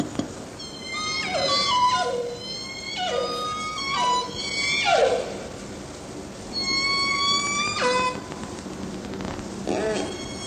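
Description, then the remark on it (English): Calls of resident (salmon-eating) killer whales overlap in a busy underwater chorus, with repeated rising and falling whistles and pulsed squeals from several animals over a steady hiss of water noise. “So here's a resident whale's vocalization.”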